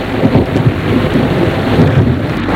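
nature, thunderstorm thunder

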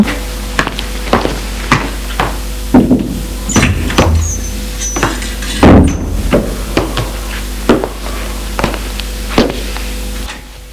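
household object, front door opening

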